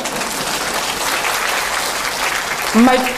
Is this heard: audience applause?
yes